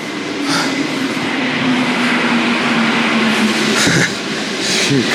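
The second-to-last metro train rumbles loudly and steadily through a subway station, with a sustained tonal whine from the motors and brief metallic clatters and hisses, with no voices.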